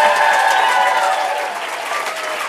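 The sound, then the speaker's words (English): Steady applause from a crowd, a dense wash of many hands clapping at a loud, even level throughout, with no voices standing out. “Let's count that as nonpartisan applause.”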